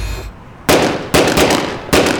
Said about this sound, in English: A man gets out of the Hyundai and walks towards him. Suddenly, the sound of gunshots erupts in the air.